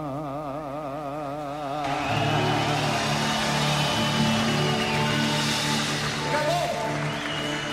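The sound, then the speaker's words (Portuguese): Wavering tones open briefly, then a loud, dense wash of audience applause for a singer after a song he wrote takes over and continues steadily to the end, with crowd noise and some voices mixed in. “Por aplauso, né, do público, até porque, é como eu falei pra vocês, uma música que sai muito natural, foi uma canção escrita por ele”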